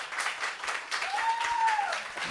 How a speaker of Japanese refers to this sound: いやいや、難しい拍手のタイミングが。